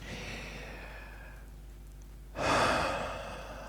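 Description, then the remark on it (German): A slow, deep breath drawn in, a short pause, then a full, audible exhale released in a breathy sigh, with no talking. “Genau das. Atmen.”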